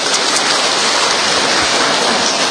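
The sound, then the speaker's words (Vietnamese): A crowd applauds in a dense, steady wash of clapping that holds at a constant, loud level for a few seconds, with no voices over it. “Cho một tràng pháo tay thật lớn thưa anh chị em.”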